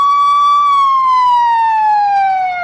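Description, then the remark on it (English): A loud ambulance siren wails steadily, its pitch sliding gradually lower as the vehicle passes by. No voices are heard over it. “Now, hold on, we got a little ambulance passing through here.”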